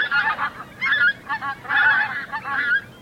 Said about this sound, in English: It's an isolated group of islands in the Arctic Ocean, north of Russia, that's best known as a Soviet testing site for nuclear weapons. Yet a growing flock of pink-footed geese have begun to make this militarized zone their summer home.